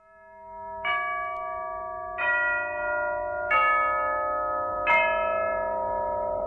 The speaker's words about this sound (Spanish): Ya doblan las campanas, se llevan a mi amor